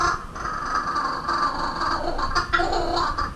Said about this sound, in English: Was that a kookaburra? Australian laughing bird